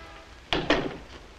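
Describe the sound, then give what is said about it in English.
In a drama scene, a flat door is opened as a police inspector arrives: two quick wooden knocks, a sharp latch click followed a moment later by a duller thunk, then a faint fading rustle; no one speaks. “Mark grabs his hat as Tony opens the door.”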